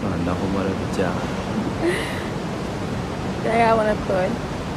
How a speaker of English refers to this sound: The sea. Exactly. And, soft lapping and then waves.